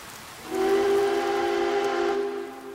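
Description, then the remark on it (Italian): A small train's whistle blows one long, steady note with a bright harmonic tone as the train moves along in the rain, rising in at the start and trailing off slowly, with a breathy steam hiss around it and no voices. “C'è un trenino. Un trenino che cammina sotto la pioggia.”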